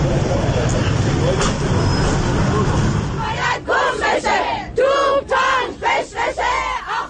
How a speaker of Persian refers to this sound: این هم صدای زنان هستش که در اتوبوس‌های شهری شعار میدن و اعلام اعتراض میکنن.